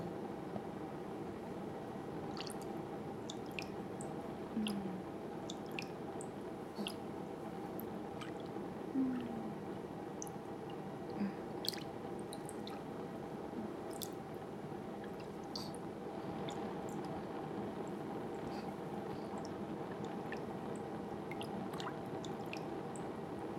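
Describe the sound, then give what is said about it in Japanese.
A ladle is shaken back and forth in liquid to make it foam, giving a steady sloshing hiss scattered with small drips, clicks and bubbly squishes, with no one speaking. “そしたら泡立つまでお玉フリフリ。”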